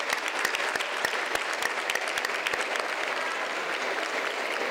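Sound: audience applause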